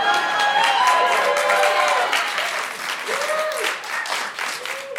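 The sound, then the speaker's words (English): An audience applauds steadily, a dense wash of clapping with scattered cheers and whoops over it, loud at first and easing off slightly toward the end. “Hold for applause by those lazy fucks.”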